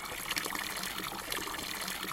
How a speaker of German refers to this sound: Das Wassergeplätscher kommt von einer Tränke raus. Das Trinkwasser kann man trinken. Hier laufen viele Jogger vorbei und die holen sich auch manchmal was zu trinken von der Tränke. Oder sie füllen ihre Flaschen auf.